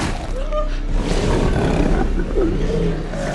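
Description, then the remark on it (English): A dark reptilian-like creature with a long tail rears its head and roars: a deep, rumbling roar rolls on continuously for a few seconds, loud, with growling undertones and throaty rises in pitch. “As it rears its head and roars, guts drip from bloody, razor-sharp teeth in its gaping mouth.”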